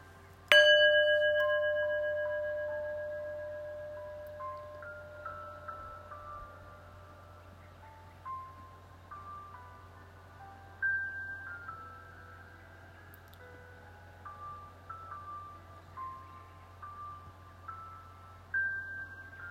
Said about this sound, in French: Je vais prendre trois grandes respirations au son du gong.